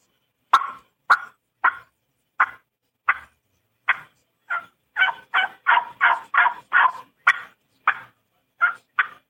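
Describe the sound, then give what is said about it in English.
A turkey call produces a string of about twenty sharp clucks and short yelps, evenly spaced at first, then bunched into a quicker run before slowing again. The clucks are made by popping the tongue on and off the call. There is no talking. “And a cluck, you're just doing a little popping your tongue on the call, off the call, on and off.”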